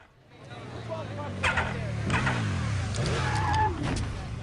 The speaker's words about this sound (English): Shane sits astride her bike, hits the ignition, but no response. Ford rides up.